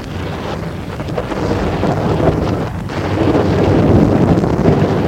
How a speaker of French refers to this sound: L'orage éclate.